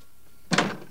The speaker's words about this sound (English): After a few moments, Alex finally goes, closing the door behind him.